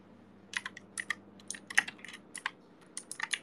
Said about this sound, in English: I'm like lazy, so I'm just typing with like one hand. I'm just like so lazy. I'm just like reclining on my chair and being really lazy.